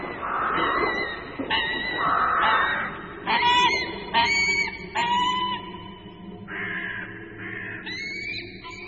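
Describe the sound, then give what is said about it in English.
A flock of birds on their autumn wanderings calls continuously, with overlapping harsh, honking cries rising and falling in bursts over a steady outdoor background, fairly loud. “Look at those flocks of birds.”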